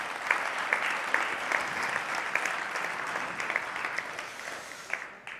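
audience applauding

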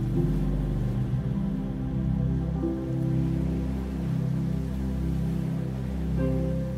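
ocean waves

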